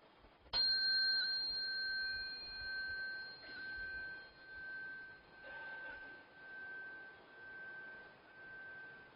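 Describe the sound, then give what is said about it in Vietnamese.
A Buddhist temple bell is struck sharply and rings on with a long, bright, shimmering tone that pulses slowly as it fades, signaling worshippers to bow. Two softer strikes of a khánh chime follow a few seconds apart, signaling them to prostrate. No one speaks. “Thì chúng ta đứng dậy, thì vừa đứng dậy rồi á, chúng ta xá theo cái tiếng chuông, chúng ta nghe tiếng khánh thì chúng ta lại xuống.”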